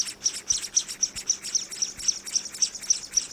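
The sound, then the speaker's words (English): Calls of the scaly-breasted munia (Lonchura punctulata, also called spice finch or nutmeg mannikin), a tiny bird: a rapid, steady series of thin, high-pitched chirps, about twenty in a few seconds, moderately loud, with no talking. “Scientists have studied this sort of behavior in a tiny bird called the scaly-breasted munia, Loncura punctulata, also known as the spice finch or nutmeg manakin.”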